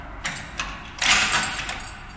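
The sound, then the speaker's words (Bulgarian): A heavy iron door grinds open, with a few short metallic clanks followed by a louder scraping rush of noise, heard on its own without voices; it is the exit door of an underground armory. “Същата желязна врата, като онази, дето отворих.”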